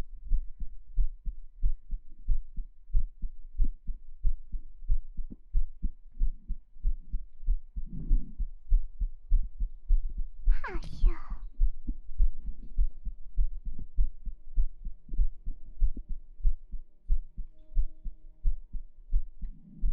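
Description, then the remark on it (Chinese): A steady, even heartbeat thumps low and close throughout, a calm regular lub-dub rhythm, with a brief higher-pitched squeak partway through and no voices. “心跳好平缓啊，你们就不想看一下这样的心跳会不会因为什么变化了？”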